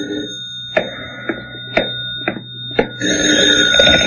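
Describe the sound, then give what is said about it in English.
A telephone rings loudly in a hotel room with a bright, steady electric tone, preceded by a few sharp clicks and knocks before the ringing swells fuller near the end. “But even as I started to open my door, the phone rang.”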